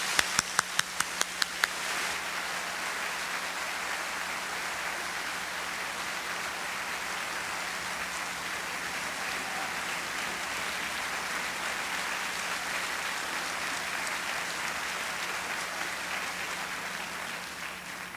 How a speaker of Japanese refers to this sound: 都議団の皆さんを大きな拍手で送りたいと思います。